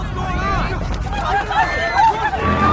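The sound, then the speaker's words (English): A panicked crowd of people who have got out of their cars, running in panic: overlapping shouts and frantic babble of many voices, loud and continuous, over a steady low rumble, with brief rising cries cutting through. “People get out of their cars and run in panic.”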